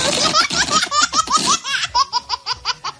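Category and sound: human body sound, baby laughing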